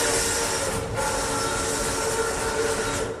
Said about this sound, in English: It's a bit like that famous myth about the early movie audience that was terrified by the footage of a train coming at them because they'd never seen a moving train that wasn't actually in front of them before.